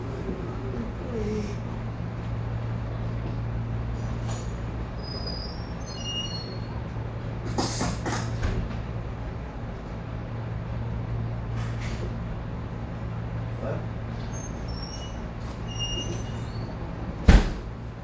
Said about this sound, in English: maybe let's really close the door here. They're having classes in English as a second language.